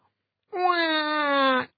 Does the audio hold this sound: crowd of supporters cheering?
no